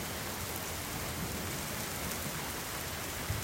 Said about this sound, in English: So here's my question. When the rain hits your street, what do you hear?